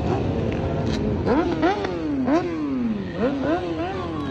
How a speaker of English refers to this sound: ATVs and dirt bikes are back out on the roads, and last year they were a near constant part of the warm months, and they were more numerous and prominent than ever before in Rochester.